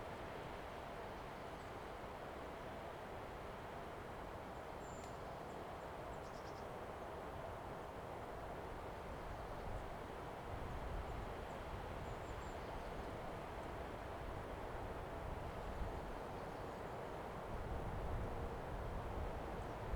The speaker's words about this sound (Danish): I får lige et øjeblik til at lytte til vinden i træerne.